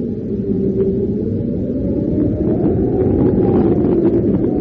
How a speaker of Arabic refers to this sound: أحيانا تعصف الرياح بالرمال فتتحول إلى عواصف رملية قاسية تعصف بالصحراء.